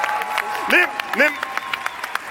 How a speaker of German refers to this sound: Und damit bitte nochmal einen krachenden 10-Punkte-Applaus für unseren Gewinner